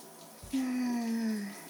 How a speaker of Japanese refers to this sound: ほら、シャワーで流して。